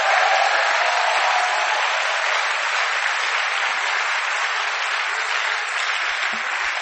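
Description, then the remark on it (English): An audience claps for God in a sustained, even burst of applause that holds steady and loud for about seven seconds, with no voices standing out. “Clap for God.”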